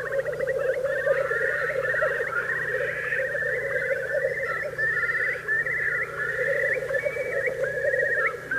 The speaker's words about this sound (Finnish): No niin, aika hienolta kuulostaa kuovinääni. Ihan näitä tuttuja.